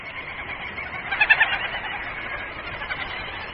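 A dense, continuous chatter of a colony of little auks calling at once in the high Arctic, where they arrive in their millions to lay eggs on bare rock; a busy colony din with a few louder bursts standing out briefly near the middle.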